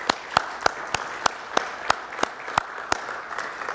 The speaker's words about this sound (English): And for the rest of us, let's give them an applause, right? So just thank you, moms.